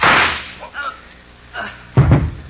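One loud, sharp shot from a single-shot pistol cracks out at the start and quickly fades, followed by quieter shuffling and then a voice speaking.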